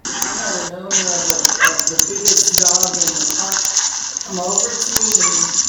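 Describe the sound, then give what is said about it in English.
Dogs bark, snarl and whine in a chaotic, loud dog fight, one going after a boxer, with sharp repeated clicks over a steady hiss and excited human voices mixed in. “Is going after the boxer man.”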